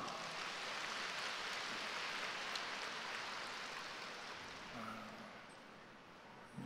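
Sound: applause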